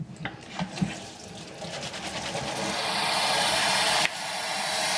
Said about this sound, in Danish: Men selvom det er en brun alge, så prøv at se, hvad der sker, når jeg hælder kogende vand på den.